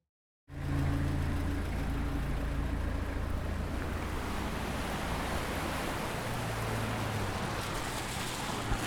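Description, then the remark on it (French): Steady, dense hiss of rain on a city street in Amiens with a low, continuous rumble of car engines underneath, beginning abruptly after a brief silence and holding an even loudness throughout, with no voices. “Maintenant, au tour de Prépa Tour, découvrir Amiens entre la pluie et les voitures.”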